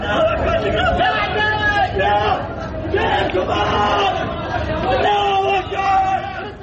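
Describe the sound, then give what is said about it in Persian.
Many voices shout and yell over one another in a loud, agitated crowd trying to carry wounded people to hospital, with raised cries rising and falling continuously and no quiet moments throughout. “داد و فریاد مردمه که ملتهبن و دارن زخمی ها رو سعی میکنن به بیمارستان منتقل کنن.”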